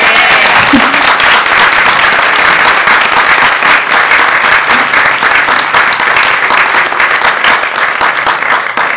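A large audience applauds steadily for about nine seconds, a dense, loud wash of many overlapping hand claps that holds its level before easing slightly at the end.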